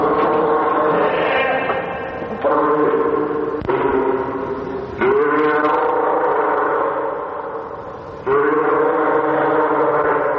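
A fur seal bleats loudly at lunchtime, letting out a run of long, wavering, nasal cries with brief breaks between them and no voices around.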